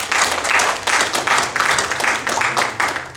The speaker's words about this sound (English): Yes, please turn around and facing the congregation and give them welcome by giving them applause.